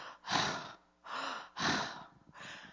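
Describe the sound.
Heavy, ragged gasping breaths as if after nearly drowning, about four in quick succession, alternating sharp inhales and rough exhales, loud, with no talking.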